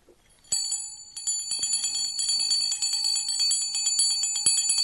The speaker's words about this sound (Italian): Dov'è la mia campana qua? Eccola qui.